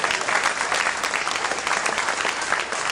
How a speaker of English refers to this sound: Look, somebody don't even want to clap at that.